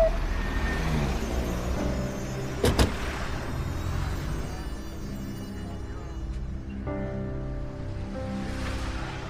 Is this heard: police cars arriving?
yes